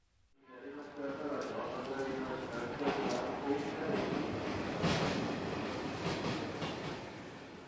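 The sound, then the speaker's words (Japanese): A train rumbles steadily along the rails for several seconds, a dense, continuous roar with faint rhythmic clattering, and indistinct voices murmur beneath the noise. “すいません、今の電車に忘れ物をしてしまったんですが。”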